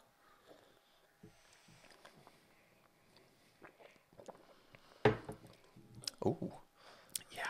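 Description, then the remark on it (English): A wet slurp of someone sipping hot Highlander Grog coffee from Rock Solid Coffee Co., followed by a couple of soft mouth and swallowing noises after a mostly quiet stretch with faint rustling. “Highlander Grog. One sip.”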